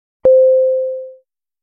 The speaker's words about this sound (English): Each word comes with its definition and its sample usage. Each word is separated by the chime sound.